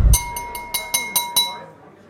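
A knife taps a drinking glass about seven times in quick, even succession to ring in a toast, each clink bright, with a clear ringing tone that lingers and fades after the last tap.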